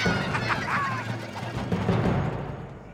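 A flock of ducks calls as it flies in a V formation at night, with several brief overlapping quacks over a steady, fairly loud background wash. No one speaks.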